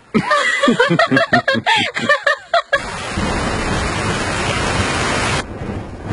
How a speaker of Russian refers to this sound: Льет как из ведра. В ту ночь тоже был шторм.